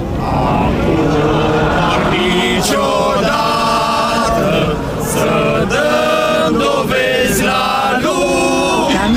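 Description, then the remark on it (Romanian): A large crowd of about 50,000 people protesting at the government in the evening at 9 pm fills the scene with loud, continuous chanting and singing in rising and falling waves, with occasional sharp bursts of whistles or cheers cutting through the dense roar. “50.000 de oameni au protestat aseară la guvern la ora 21, după ce organizatorii au împărțit colia 4, roșii, galbene și albastre, mulțimea le-a luminat cu ajutorul telefoanelor mobile.”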